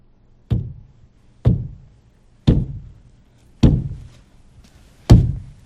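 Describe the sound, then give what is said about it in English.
Five heavy, dull thuds strike a gypsum board wall, which vibrates slightly with each one, at uneven intervals of about a second, each loud with a short booming low resonance fading away between impacts. “The edge of a gypsum board wall against a black background. It vibrates slightly with each thud.”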